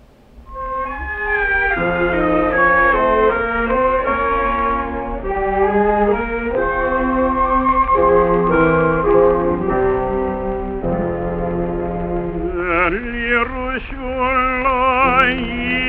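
A cantorial song, a Jewish liturgical composition: a sustained, melodic liturgical vocal line with steady accompaniment, swelling into a vibrato-rich, wavering high passage toward the end, holding an even, fairly loud level throughout.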